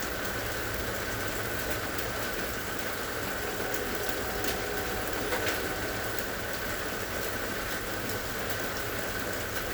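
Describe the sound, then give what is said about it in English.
A steady, continuous rumbling wash of noise from a passing train holds at an even level throughout with a faint tonal hum running underneath and no voices. “You may be hearing the sound of a train in the background.”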